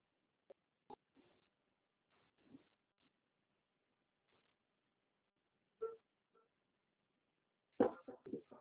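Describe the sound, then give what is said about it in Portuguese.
A chair is dragged across the floor in a series of short, uneven scrapes and knocks, ending in a louder, longer grinding scrape. No one speaks. “Ei, não arrasta essa cadeira não, eu tô falando no telefone.”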